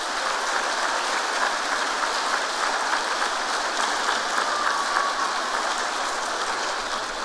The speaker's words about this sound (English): Let's give a big round of applause.